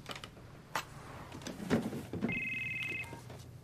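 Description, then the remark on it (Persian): A mobile phone rings with a short, bright electronic trill, following a few clattering and rustling handling noises. The ring is clear, and no one speaks. “اون گوشی فقط 2 ساعته که باعث شمارشو به کی دادی؟”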